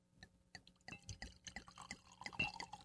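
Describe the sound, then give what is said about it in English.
Wine from the producer Gracchi glugs and splashes as it is poured into a glass, an uneven run of liquid gurgles and drips that grows slightly fuller toward the end, with no one speaking. “I mean, so now we're going to get you to pour that wine.”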